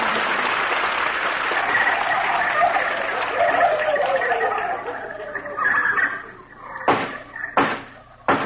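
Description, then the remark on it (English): A loud, dense chorus of turkeys gobbling together for about six seconds fades out, followed by three sharp, evenly spaced knocks like a gavel striking. “Turkeys of the jury, you've heard the evidence.”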